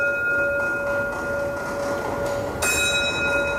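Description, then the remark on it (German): The bell of the monumental clock in St. Mary's Church (St. Marienkirche), which has rung daily for 551 years, rings out with steady, sustained tones that hang in the air, and a fresh strike lands near the end over a faint background hum. No one speaks. “Seit 551 Jahren läutet die monumentale Uhr in der St. Marienkirche jeden Tag zur Mittagsstunde und um Mitternacht.”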